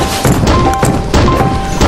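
Repeated loud, crunchy smashing impacts from a video game hammer destroying enemy launchers in the first stage, several heavy hits in quick succession over a dense, busy backdrop of game effects with brief tonal chimes.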